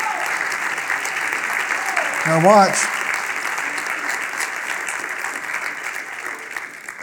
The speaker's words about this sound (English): Come on, give the Lord a hand clap and thank him for that.